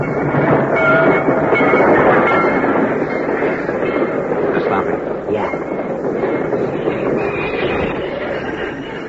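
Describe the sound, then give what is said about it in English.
A freight train rolls past, a loud, steady rumble and clatter of heavy cars with faint metallic squeals, the noise easing slightly as it slows to a stop in a railway cut, halted by a flare lit on the tracks. “Because the flare which stopped the train has been planted at a carefully chosen point, the train is strung from one end of the cut to the other, and right opposite the point where the two men had been huddling is a sealed freight car.”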